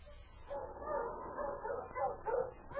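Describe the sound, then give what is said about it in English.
Sled dogs yelping eagerly as they increase their pace nearing home on the outskirts of Dawson, a steady stream of high, overlapping yips and whines that rise and fall in quick bursts, moderately loud, with no voices. “The sled dogs increased their pace and yelped with eagerness as 2 days later,”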